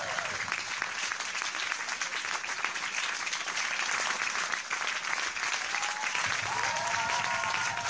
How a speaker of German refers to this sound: Ja, gib mir mehr Applaus.